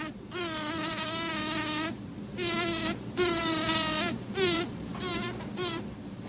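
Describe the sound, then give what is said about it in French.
A bumblebee buzzes in flight in a string of loud, droning bursts, several in a row with short pauses between them, its steady hum wavering slightly in pitch. No one speaks. “Un grésillement, un vrombissement aigu de quelques dixièmes de seconde ou quelques secondes, puis un silence, puis un nouvel accès de grésillement.”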